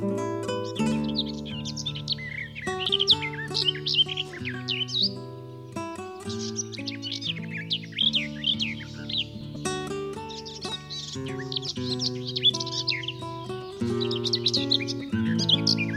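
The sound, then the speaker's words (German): A garden warbler sings a continuous, rapid, warbling stream of bright chirps and trills, clear, layered over sustained low musical tones throughout. “Das war die Gartengrasmücke.”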